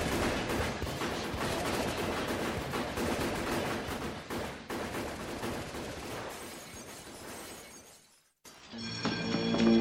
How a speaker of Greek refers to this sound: Και βλέπει στο πέρα-πέρα σημείο του κήπου κάποια όπλα να κινούνται προς το μέρος του. Πέσε κάτω, της λέει, και αρχίζουν οι πυροβολισμοί.